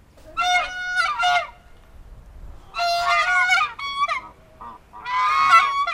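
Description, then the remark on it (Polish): Geese at a museum in Ciechanowiec honk loudly at people approaching, in three harsh, nasal bursts of overlapping calls, each lasting about a second, separated by brief quieter pauses. No one speaks. “One są jak strażniczki, te gęsi krzyczą.”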